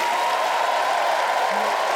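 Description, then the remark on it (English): A steady wash of audience applause for performer Robbie McShane at the end of his set, dense and continuous for the whole stretch, a broad crackling hiss of many hands clapping together with no voices rising above it. “One more time, let's hear it for Robbie McShane.”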